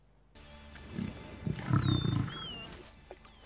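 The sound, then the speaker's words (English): A lion, attacked by 20 hyenas in a wildlife video, roars with deep, rumbling growls in a few surging bursts over about two seconds, loud, while faint high bird-like chirps sound in the background. No one speaks. “Leon sent me this video of a lion attacked by 20 hyenas, and he has no chance”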